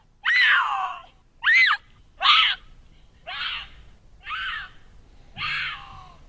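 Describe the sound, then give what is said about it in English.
A mountain lion screams six times in a row, each harsh, wavering shriek lasting about half a second with short pauses between, loud, the later cries a little softer. No one speaks. “And so I found this video with some mountain lion screaming.”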